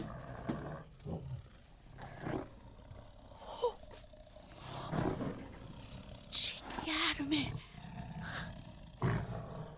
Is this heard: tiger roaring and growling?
yes